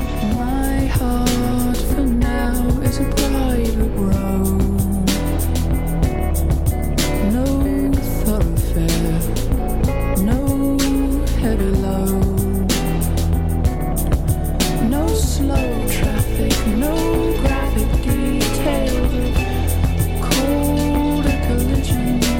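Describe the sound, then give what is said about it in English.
Motorcycle engines roar steadily and loudly in Wall, South Dakota, their pitch rising and falling as they rev and pass, forming a continuous dense rumble throughout with no break. “So one of the things that you're going to hear while you're here is the roar of motorcycles.”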